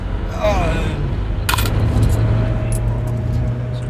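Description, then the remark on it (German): Coins drop out of a machine as change: a sharp metallic clatter followed by a few lighter clinks, over a steady low mechanical hum. “Auf jeden Fall Kleingeld.”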